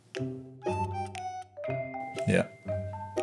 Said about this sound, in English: Is that somebody's doorbell?